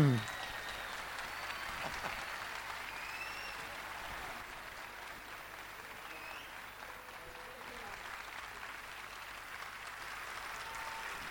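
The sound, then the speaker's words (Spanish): An audience claps steadily and continuously for about eleven seconds to welcome television, theatre and radio figure Cristina Morán, a dense wash of applause that stays even throughout, with no clear talking over it. “Así que voy a pedir un fuerte aplauso porque con nosotros esta noche está la gran señora de la televisión, del teatro y de la radio de nuestro país, la señora Cristina Morán.”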